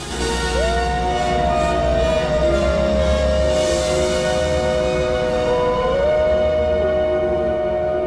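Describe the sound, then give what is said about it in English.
Wolves howl in long, drawn-out tones that rise and hold steady, a white wolf answering the call, one howl overlapping another and a fresh one swelling in near the end, loud and continuous with no talking. “The white wolf answers the call.”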